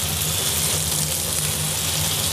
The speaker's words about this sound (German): Das ist ein bisschen Wasserrauschen.